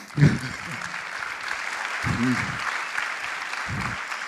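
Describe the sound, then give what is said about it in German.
An audience claps steadily to thank the event's financial supporters, including Wikimedia Deutschland, the Chaos Computer Club and Mozilla, a dense, even wash of applause lasting a few seconds, with brief bursts of low voices or cheers rising over it. “Könnt ihr vielleicht mal kurz klatschen.”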